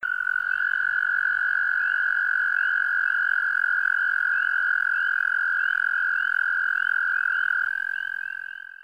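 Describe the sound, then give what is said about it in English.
A long, steady musical trill, the mating call of an American toad in Wisconsin, a high sustained buzzing note that holds unbroken for several seconds, loud, with faint chorus sounds behind it. “American toad.”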